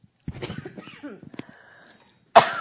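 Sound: coughing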